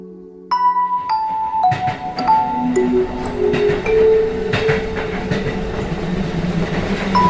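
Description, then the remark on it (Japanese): An electric train running into a tunnel rumbles steadily, its loud, continuous roar mixed with ringing metallic tones and faint clattering, sustained throughout with no voices. “電車はトンネルの中へと入っていく。”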